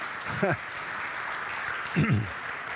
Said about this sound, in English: Takes a lot of faith to applaud before a preacher preaches.